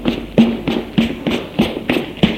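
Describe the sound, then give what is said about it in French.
Quick, steady running footsteps of a man running out of breath, about eight dull thudding strides in a fast even rhythm, each with a soft scuffing tap, heard on their own without any talking. “Il court, essoufflé, en sueur, entend du bruit.”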